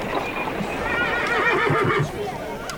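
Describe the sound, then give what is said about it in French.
A horse pulling a coach whinnies with a long, wavering, high-pitched cry lasting a couple of seconds as the coach is halted in Ferrara, Italy, while a few dull hoof clops thud underneath near the end. Both are fairly loud. “Cocher, arrêtez-moi là, s'il vous plaît.”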